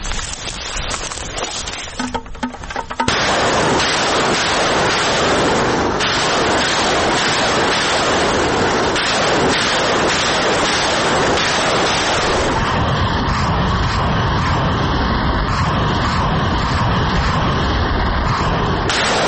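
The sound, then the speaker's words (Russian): A Ukrainian rocket artillery vehicle fires a salvo of about 20 shells at a concentration of Russian troops from a firing position in fields near Bakhmut, its launches merging into a loud, sustained roaring rush that starts abruptly after a brief quiet moment and continues without pause, with no talking. “Ми виїхали на вогневу позицію, зорієнтували машину і кинули кацапом 20-ку снаряді.”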